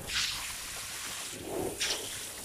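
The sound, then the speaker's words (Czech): Water rinsing wine vats after the grape harvest, before crushing the grapes: a steady wash of hissing spray, with a couple of brighter splashing bursts and a duller slosh in between, fairly quiet throughout and with no voices. “Perem kaci.”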